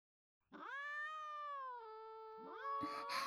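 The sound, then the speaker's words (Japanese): Cats meowing insistently as they beg for treats and cling to the legs of the person feeding them, one long drawn-out meow followed by another rising cry overlapping it, fairly loud with no talking. “はいはい、そんな騒がないの。あー、もう足にくっつかないね。おねだりしなくてもちゃんとあげるから。”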